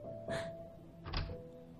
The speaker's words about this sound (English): She opened the door.